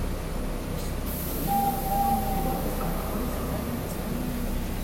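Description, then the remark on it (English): A steady, enveloping rumble of a moving train heard from inside a carriage, with a thin metallic whine rising briefly midway and a constant airy hiss overhead. “Is it the last stop for the train or no?”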